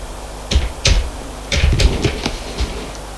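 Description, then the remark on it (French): A man at his office desk dials a number on his telephone: about seven sharp, clicky key presses at an uneven pace, fairly loud against a quiet background, with no voices. “Fait un numéro.”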